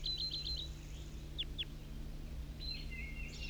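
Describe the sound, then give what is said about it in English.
Wild bird calls from a red male bird: a quick run of five high chirps, then two sharp downward-sliding notes, and finally a thin, longer whistled trill, all over a steady low hum. “'Cause all calls of the wild bird. A red male.”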